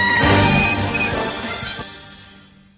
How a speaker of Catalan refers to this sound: Sí, sí, un gall.